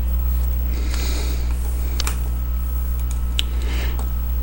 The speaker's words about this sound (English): You all get to listen to me sniffle with my allergies tonight. The joys of living in the tropics.